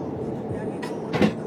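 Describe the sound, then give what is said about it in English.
A car drives over a manhole cover in the middle of a freeway, making two quick metallic thumps from front and rear wheels, the second louder, over a steady low road rumble from inside the vehicle. “I just ran over something. Sounded like a manhole cover, but why would there be a manhole cover in the middle of the freeway?”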